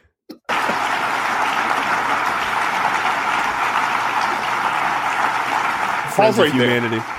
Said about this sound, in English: Pause right there. I know that all you heard there was applause, but if you're not watching this on video, Mike Pence had a nice little look on his face during the applause.